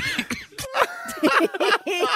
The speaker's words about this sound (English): Like, when you've got a cough and you can't get rid of it and it's there, like he had to stop reading the news. He had to hand it over to the sports reader.